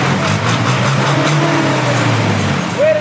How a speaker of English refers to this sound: As other vehicles jostle for space while belching clouds of dark smoke in the streets of Nairobi